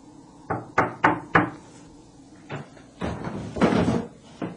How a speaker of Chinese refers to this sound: 于是洛瑟来到一家客栈门口，敲敲门。